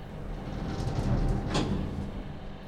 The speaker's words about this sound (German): Blinken der Taste 6, dass sie den Befehl verstanden hat. Die Türen schließen.